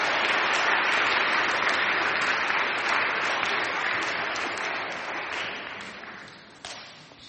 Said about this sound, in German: Super, vielen Dank. Genau, gib denen aber einen Applaus.